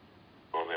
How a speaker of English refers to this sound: And that may be that beep, not the one just now, the larger beep. Wait for it. Here it comes.